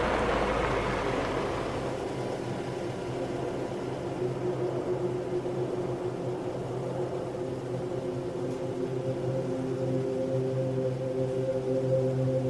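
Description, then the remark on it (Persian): A car engine drones steadily as the vehicle drives to a mine, a low continuous hum with a slowly rising pitch, preceded by a brief rush of broad noise at the start. “حاتم با ماشین میره معدن.”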